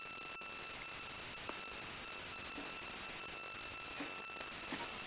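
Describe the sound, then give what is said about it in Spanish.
A phone alert sounds as a steady, high electronic tone held for several seconds over a faint hiss, with a few soft clicks scattered through it. Nobody speaks. “Y ahora voy a volver a silenciar mi teléfono.”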